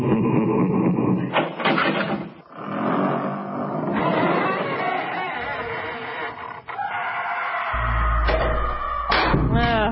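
A heavy dungeon door sound effect creaks and groans open in a long, loud, drawn-out screech, with a deep rumbling thud building underneath near the end.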